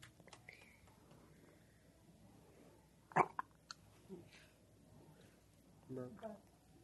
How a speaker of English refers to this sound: Burped. I think he's a little tired now. That's why he's quiet.